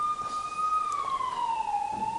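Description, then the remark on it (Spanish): An alarm siren, the second one to sound, wails steadily, its strong tone slowly gliding downward in pitch over two seconds, with a faint higher harmonic above and low background rumble beneath; no one speaks. “Algo está pasando, porque ya la segunda alarma me parece que suena.”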